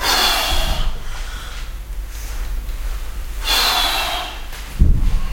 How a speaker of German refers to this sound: Hört man, wenn ich anfange, schwer zu atmen? Stimmt. Das ist ja das Ziel der Übung hier.